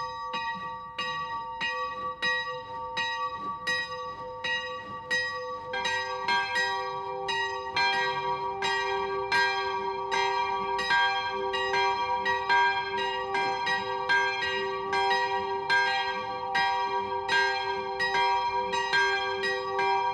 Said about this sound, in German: Es ist 12 Uhr. Das Mittagsläuten kommt heute von der Klosterkirche Kronach.